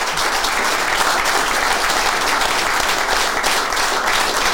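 Sustained audience applause, a dense wash of many hands clapping at once, loud and steady throughout with no voices standing out.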